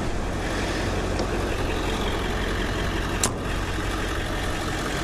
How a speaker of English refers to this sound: I know there's probably lots and lots of trucks over at the other thing, but so here I am again, sitting in my truck with the engine running.